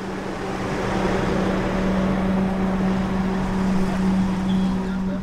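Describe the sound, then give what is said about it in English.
A heavy engine drones steadily with a low hum under a constant broad wash of churning water as an enormous truck drives through floodwater. The sound is continuous, with no voices. “The enormous truck took off through the water, searching for the toddlers.”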